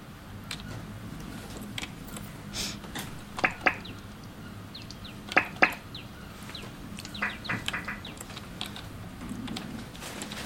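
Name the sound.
small birds chirping outdoors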